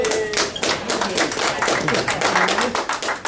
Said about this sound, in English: How many people from Kiwanis are here? Can I just hear a round of applause from Kiwanis?